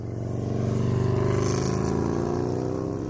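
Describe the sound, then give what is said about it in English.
A motorbike engine roars loudly and steadily, its deep droning growl swelling slightly midway as it passes by, with no voices present. “Even when we think we're in perfect silence, the sound of air conditioners or planes high in the sky permeate through our sensitive little eardrums, and with enough attention paid to them, can become as loud as a motorbike roaring down the M4.”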